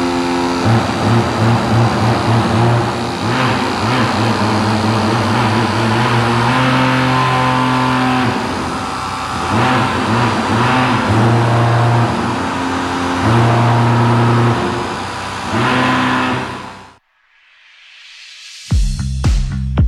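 Many loud vibrating motors in moving objects on the floor of an art exhibition drone together in overlapping, shifting pitches, revving like a chorus of chainsaws, then cut off abruptly into silence before a brief burst starts up again.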